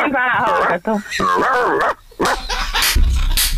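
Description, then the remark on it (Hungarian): A man's voice mimics a dog, letting out a string of loud, strained barks and yelps with warbling pitch, separated by brief pauses. “a hang alapján jó! Nagyon, kutyának nagyon jó lenne.”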